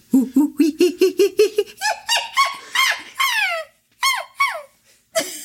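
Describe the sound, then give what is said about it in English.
A person imitates a monkey call: a quick run of rhythmic low hoots that climbs into loud, high-pitched shrieks sliding downward, ending in a few sharp squeals. “It is the Monkey voice.”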